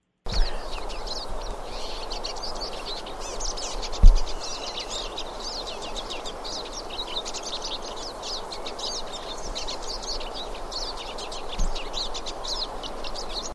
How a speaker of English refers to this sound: Okay, that was the pine siskin. They sound really little. Are they small birds? Oh, they're very tiny. They're only about 5 inches long and quite slender.